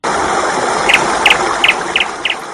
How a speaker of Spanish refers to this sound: Y lo primero que quiero hacer es oír un pajarico a estas horas.